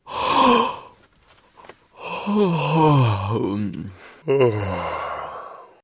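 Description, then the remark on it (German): A person yawns widely several times, breathy drawn-out exhalations sliding up and down in pitch, fairly loud, with short pauses between them and no speech. “Das Anhören dieses Radiobeitrags kann zu vermehrtem Gähnen führen.”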